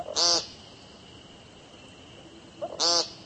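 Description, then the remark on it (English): Two short, buzzy, nasal peent calls of an American woodcock, spaced about two and a half seconds apart, each a harsh rasping burst over a faint steady background hiss. “Their brown and black speckles camouflage them perfectly until they sing, which sounds less like singing and more like yelling the word paint over and over.”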